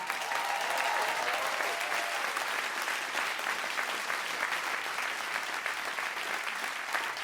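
Steady audience applause at a live show, rating a submitted question, fills the whole stretch, a dense, even wash of many hands clapping at moderate loudness, with no voices standing out.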